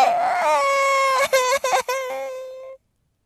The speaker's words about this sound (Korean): 지금까지는 실개천처럼 이을락말락하던 손녀의 울음소리가 갑자기 벽계수처럼 터져오른다. 방 안의 어둠을 갈기갈기 찢는 그 울음소리엔 분명 그 어떤 원망과 항변이 울리고 있었다.